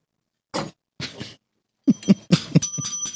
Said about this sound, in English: There's the bell. Yeah, I know. I saw it earlier. I'm like, I haven't used this bell in forever. I'm like, oh, they're just sitting. It's just behind my monitor, so I never see it.